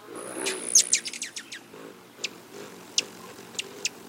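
A rufous hummingbird gives a quick burst of thin, high chirps, then several sharp, isolated chip calls spaced about half a second apart, fairly clear with no voices.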